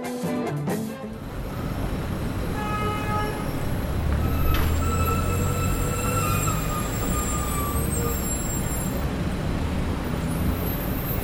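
Shrill, squealing tones from distant public city buses in Buenos Aires, about 50 metres away and peaking at 78 to 80 decibels, ride over a constant roar of traffic, with a brake-like hiss and sustained high whines stretching across the scene.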